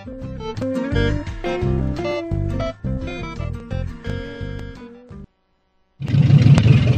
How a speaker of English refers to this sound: When your car starts to gasp and sputter, you take it in for a tune-up.